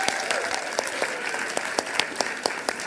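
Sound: audience applause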